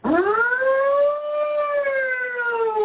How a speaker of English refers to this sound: Huge fire truck!